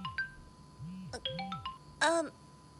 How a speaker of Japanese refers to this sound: え、電話。ちょっと待って。